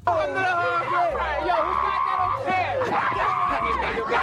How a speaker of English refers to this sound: But listen to the crowd.